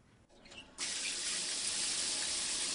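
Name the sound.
shower water running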